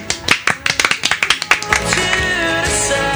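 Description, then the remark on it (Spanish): A burst of sharp, fairly loud hand claps on a radio show, about a dozen in quick uneven succession, gives way after a second and a half to a steady sustained tone with no clapping. “Un aplauso.”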